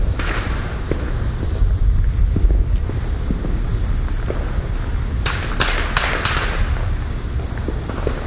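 Fireworks thud and crackle from several directions at once, going off all around and in front of the listener: a steady rumble of booms with a few sharper pops near the end, and no one speaking.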